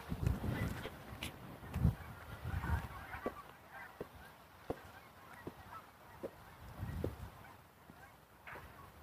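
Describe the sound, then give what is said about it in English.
Geese, unseen, honk repeatedly in uneven bursts, with sharp clicking taps scattered between the calls against a quiet outdoor background, heard during a walk. “I hear geese.”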